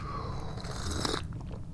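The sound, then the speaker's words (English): A teapot whistles as pressure releases, with a thin, steady high-pitched tone over a low rumble, a lower tone sliding downward at first, then the whistle cuts off abruptly near the end. “This is a sound that I'm familiar with. The sound of my teapot howling.”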